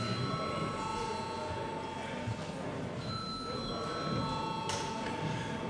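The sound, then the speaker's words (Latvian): An electric bell rings continuously for several seconds in a parliament before a vote, a steady, bright metallic tone, with faint murmur underneath. “Paldies, lūdzu zvanu.”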